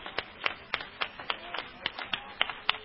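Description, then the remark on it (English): A church audience clapping hands to the Lord in unison, about ten sharp, crisp claps at a quick, steady beat, moderately loud, with no voices over them. “Come on, let's really clap our hands to the Lord.”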